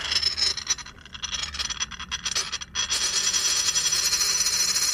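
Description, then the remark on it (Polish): A coin is tossed onto a small plate for a draw, rattling and scraping in a steady, hissy metallic chatter, thinning briefly midway before picking back up and continuing to the end. No one speaks. “dlatego mamy znowu talerzyk, mamy monetę, bardzo proszę. Losowanie nocnych klimatów.”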